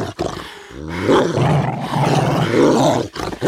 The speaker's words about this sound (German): Aber als sie sich dem Bett nähern wollte, sprangen sie auf, knurrten bedrohlich und zeigten die blitzenden Reißzähne wie zum Angriff.